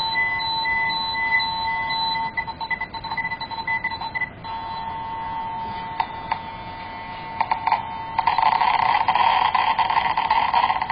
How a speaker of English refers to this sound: Right now, I'm pulling out a check source. It's cesium 137, and it's right now against this one, and you hear the alarm going off.